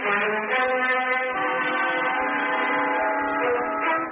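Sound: train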